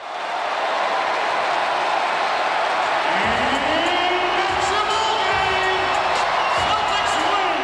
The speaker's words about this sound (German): Die rund 18.000 Zuschauer erheben sich von den Sitzen und huldigen ihre Boston Celtics mit stehenden Ovationen.